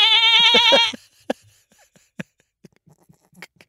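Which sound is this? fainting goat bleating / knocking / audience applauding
fainting goat bleating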